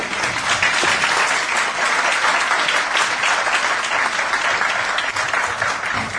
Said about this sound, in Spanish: Pues yo creo que se merecen un aplauso, ¿no?